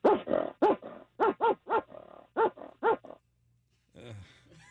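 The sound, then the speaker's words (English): A person imitates a dog over the phone as a talent, letting out a loud burst of about nine rapid, rough barks in an uneven rhythm, then falls briefly silent before a softer little growl. “I don't know how well this will translate over the phone, but I got a pretty good dog bark.”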